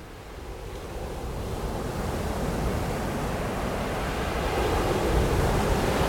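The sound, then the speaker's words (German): Strong, gusty, damp-cold wind outside a house in the Eifel, Germany, roars through tree branches, including some conifers, in a dense, continuous rush that swells slightly louder as it goes on, with no voices present. “Wie der Wind in die Baumwipfel geht und zwischen den Ästen durchpfeift?”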